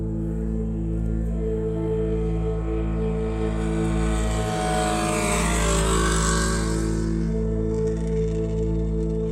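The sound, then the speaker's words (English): A motorcycle engine drones steadily as it rides along a long road across a prairie, its rumble swelling louder as it passes around the middle, then easing back. No voices are heard. “A lone traveler by the name of Vanessa rides along the prairie on her motorcycle.”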